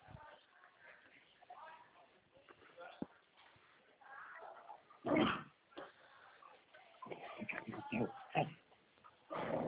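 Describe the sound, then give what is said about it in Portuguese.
A dog that has just been given a bath whimpers and whines in restless, uneven bursts, with a few sharper yelping cries standing out among the softer whining. “É meu cachorro que eu dei banho, tá desesperada.”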